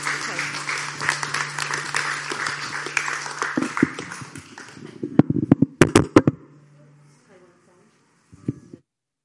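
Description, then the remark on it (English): An audience claps together for the Lord after a prayer in a dense, steady round of applause. It thins out after about five seconds into a few sharp, louder claps, then a last scattered clap, with faint voices underneath. “Let's give the Lord a big clap today.”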